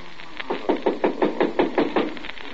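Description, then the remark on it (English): A rapid, steady series of about a dozen firm knocks on a door by a neighbour from next door, evenly spaced and fairly loud, with no voices. “Somebody at the door.”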